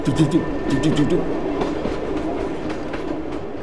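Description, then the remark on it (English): A freight train of 70 to 80 ore cars loaded with iron ore rolls past in Gogebic County iron country, its wheels clacking rhythmically over the rail joints above a steady, heavy rumble that fills the whole stretch. “hang out near the railroad tracks. Cars would come over with all this iron ore and, 70, 80 cars.”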